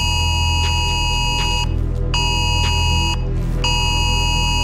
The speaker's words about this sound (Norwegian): For klokka 12 I dag vil mobiltelefoner over hele landet vibrere og spille av et høyt lydsignal.